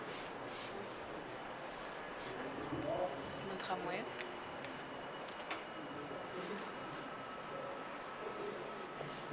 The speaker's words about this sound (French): Le tramway qui est très musical en termes de sonorité.